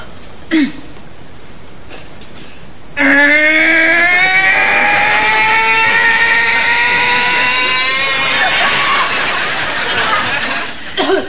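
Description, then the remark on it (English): A girl's voice imitates the noise a vacuum cleaner made, a sustained droning hum that rises steadily in pitch for about eight seconds before cutting off. A brief vocal sound comes just before it. “she doesn't know how to use a vacuum, but she can imitate it real good.”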